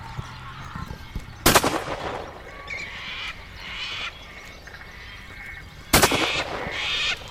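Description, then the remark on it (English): Two sharp, loud rifle shots crack out several seconds apart at the Wimmera River, each with a brief rolling echo, while birds call and chatter steadily in the background between them. “Wimmera River, Rifle Shot”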